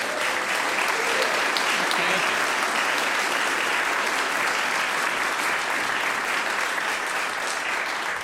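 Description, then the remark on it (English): An audience breaks into sustained applause, a dense, steady wash of clapping hands that holds at an even, fairly loud level for the whole stretch without voices standing out. “Well, before we get sent off to lunch, let's please give a round of applause,”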